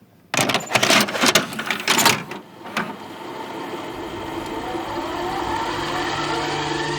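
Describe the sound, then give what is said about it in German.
A few sharp plastic clicks and clunks as cassette tape number 6 is loaded into a deck, then the machine starts and a steady mechanical hum with faint tape hiss runs on evenly. “Wir legen die Kassette Nummer 6 ein.”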